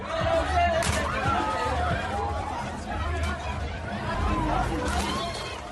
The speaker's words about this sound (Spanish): Este lunes también escuchamos la bronca que se ha producido en la caseta de Comisiones Obreras, menuda batalla, en la Feria de Abril.